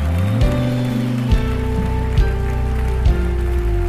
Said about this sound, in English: If I got a people that believe it, clap your hands and give God praise. Is that all you got today, church?